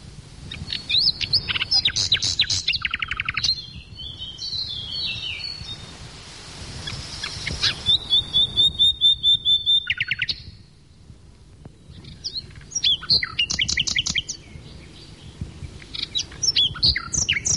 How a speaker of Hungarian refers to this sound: Befejezésül hallgassuk meg hazánk legszebben éneklő madarát, a fülemülét.